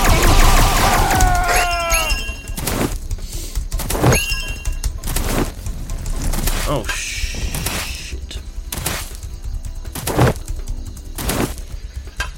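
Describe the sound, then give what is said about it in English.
A series of heavy cannon blasts hitting the player in a video game thuds in at irregular intervals, loud, about seven booms over a dense game background with some whistling tones early on. “That was a cannon hitting me.”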